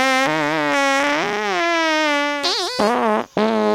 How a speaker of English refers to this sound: Wow, it's like you guys are communicating with your farts.